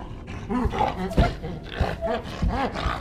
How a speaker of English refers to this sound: This appears to be an orangutan.